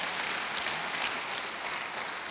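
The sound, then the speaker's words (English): An audience claps together in steady, dense applause as praise to the God of mercy, a continuous wash of many hands that holds an even loudness throughout, with no one speaking over it. “Would you give the God of mercy a hand clap of praise?”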